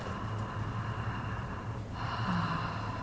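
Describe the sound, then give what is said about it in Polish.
A steady, hissing Ujjayi yoga throat breath, taken with lips slightly parted, fills the whole clip: one long breath that shifts into the next about two-thirds through, with a soft ocean-like rasp and no talking. “Kto zna oddech Ujjayi, przechodzi do oddechu Ujjayi.”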